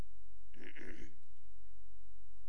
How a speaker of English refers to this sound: You can all clear your throat for me if you want. Shall we try that? Everybody clear your throat.